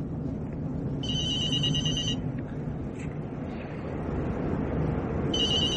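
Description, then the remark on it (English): A cell phone rings in two bursts of a high, warbling electronic tone, separated by a pause, over a steady low rumble of a car's engine as its owner drives home along the edge of a lake in late fall. “How the hell did you get my cell phone number, Shooter?”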